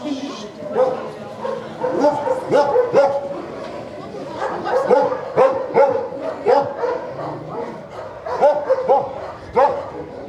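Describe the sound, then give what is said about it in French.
Many dogs of all breeds bark and yip continuously at an animal shelter, echoing, overlapping barks from several animals, with occasional whimpers mixed in. “Vous voyez, il y a toutes les races de chiens.”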